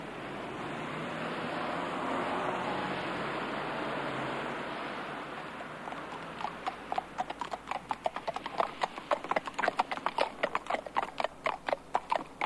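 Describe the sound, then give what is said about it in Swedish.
Horse hooves clip-clop steadily on a hard road as Princess Madeleine and companions exercise horses on a slushy, snow-wet November day on the way to Gärdet, emerging from a rushing, wet noise; the sharp, regular hoofbeats grow clearer in the second half. “Och det här är hästägarens vardag. Att motionera sin häst oavsett väder.”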